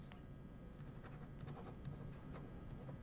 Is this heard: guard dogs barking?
no